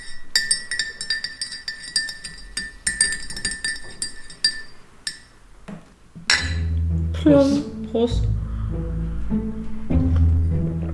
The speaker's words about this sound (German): Ich habe Kaffee gemacht. Warte, Stößchen. Ich muss jetzt mal umrühren.